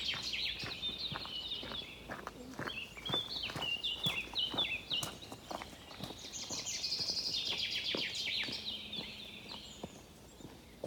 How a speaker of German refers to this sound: Lenk jetzt deine Aufmerksamkeit auf alle Geräusche, die du rund um dich hörst. Deine Schritte.